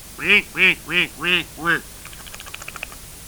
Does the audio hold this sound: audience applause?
no